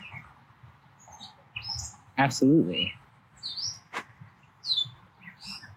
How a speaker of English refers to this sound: There was a bird just distracting the hell out of me up there.